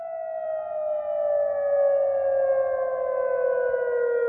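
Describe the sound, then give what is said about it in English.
Air raid sirens in Jordan, sounding to mark the beginning of a mandatory curfew, wail continuously, the tone slowly sliding downward as it drones on, loud and sustained with layered harmonics over faint background noise. “Those are the sounds of air raid sirens to mark the beginning of a mandatory curfew in Jordan.”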